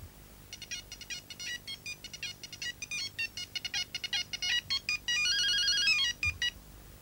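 A bright electronic phone ringtone plays alone, a rapid chirping melody of short repeated beeps that ends in a sustained warbling trill, clear.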